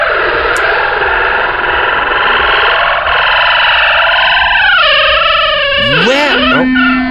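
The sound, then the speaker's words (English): A long, drawn-out door creak sound effect groans steadily for several seconds, its strained pitch wavering, then bending and sweeping up and down sharply near the end. No one speaks. “Can we get a shorter door creaking sound effect?”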